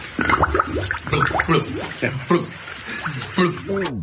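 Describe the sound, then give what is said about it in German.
A voice makes wet, gurgling blubbering noises in a string of short warbling bursts, imitating an old carp blubbering as it swims, ending with a quick rising sweep and a bubbly pop as an air bubble rises from its mouth. “Beim Schwimmen liebt er es laut vor sich hin zu blubbern.”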